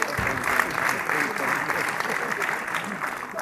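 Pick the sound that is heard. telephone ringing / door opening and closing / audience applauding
audience applauding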